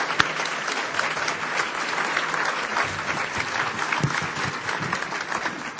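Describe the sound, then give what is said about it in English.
Sustained audience applause recognizing Nobel Peace Prize winner Wangari Maathai: dense, steady clapping from many hands that holds at an even loudness for several seconds, with no voices rising above it. “So, Wangari, a big round of applause.”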